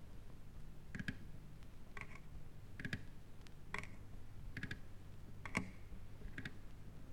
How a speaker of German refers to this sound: Das sind die Krallen an den Tatzen der Windspiele von Friedrich II. Auf dem harten Parkett von Sanssouci. Wenn man es weiß, ist es einfach.